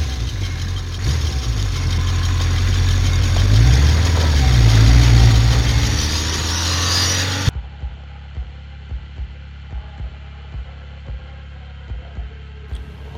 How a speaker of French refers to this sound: Moto, motard, rocker, rombissement de révolte et de jouissance suppose qu'on vous débarrasse de votre harnachement d'explications sommaires.